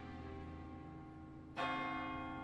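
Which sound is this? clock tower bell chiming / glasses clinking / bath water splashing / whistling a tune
clock tower bell chiming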